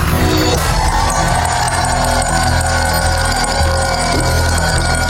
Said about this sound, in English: The opening bell at the NASDAQ earlier.